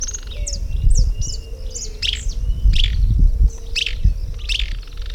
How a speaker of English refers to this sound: Okay, the bird was just saying that it is Eustrophimus. It has a rusty crown.